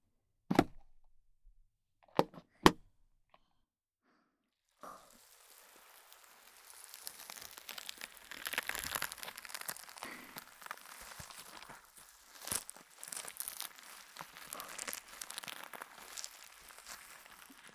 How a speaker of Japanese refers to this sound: うん、今お耳のそばでくねまいしたのは発泡スチロールスライム。なんと表現すればいいのだろう。にばーっとしてるけど、この音がいいアクセントになったって感じの音だよね。